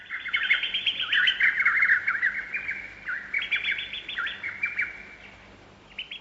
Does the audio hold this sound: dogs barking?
no